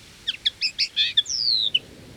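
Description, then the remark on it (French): A whistle for calling birds is blown in a quick run of bright, high chirps, then a longer sliding whistle that drops in pitch. It sounds clear, with no voices. “C'est un sifflet pour appeler les oiseaux.”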